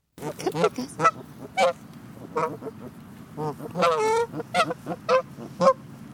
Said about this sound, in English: Those are the sounds of geese recorded in Ann Kroeber's backyard in Northern California.